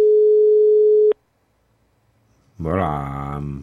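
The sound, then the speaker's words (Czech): A single steady, mid-pitched telephone ringback tone of an outgoing call sounds clearly for about a second, then cuts off into a silent pause before a man's voice begins speaking. “Tak, slyšíte sami, že vyzvání telefon?”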